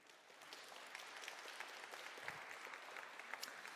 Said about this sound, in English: Brothers and sisters in Christ, you already made the covenant with her in the very beginning of the service. But why don't you just give her a round of applause and welcome?